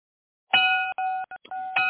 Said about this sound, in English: Bell's about to ring, folks.